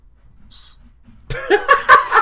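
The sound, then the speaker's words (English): A feeble attempt at whistling by a person who cannot whistle: a brief, breathy puff of air with hardly any tone, followed after a pause by bursts of laughter. “That was the most pathetic whistle I've ever heard.”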